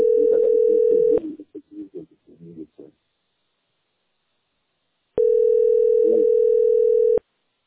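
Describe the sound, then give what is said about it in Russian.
Two long, steady ringback tones of an outgoing call to a man's phone sound a few seconds apart, each a single pitched beep, the first one partly overlapping a brief murmur of someone talking, the line otherwise silent in between. “А это его живого телефона я звоню”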